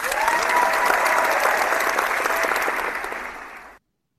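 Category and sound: crowd, crowd applause and cheering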